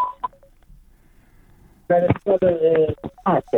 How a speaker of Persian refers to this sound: بله قطع شد تلفنتان.